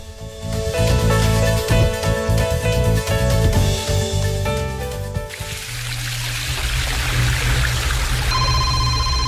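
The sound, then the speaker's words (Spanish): A melodic tune plays, then gives way to a steady, loud rush of falling water from a waterfall that continues to the end, with a brief electronic tone near the close. “¿Y qué es ese sonido? ¿Es una cascada? Sí, una cascada.”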